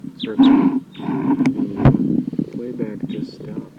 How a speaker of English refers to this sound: That's the wild bird who started calling loud immediately after the playback stopped. Wild bird.